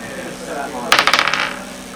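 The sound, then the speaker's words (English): Dice are rolled for odds and evens and clatter onto a hard table in a quick burst of sharp clicks, bouncing several times before settling, fairly loud. “So give me, roll any dice, odds and evens.”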